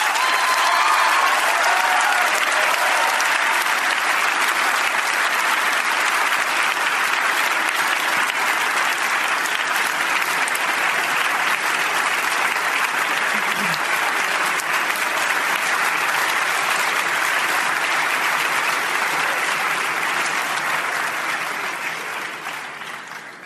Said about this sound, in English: Your hands will get tired if you clap too long for every speaker.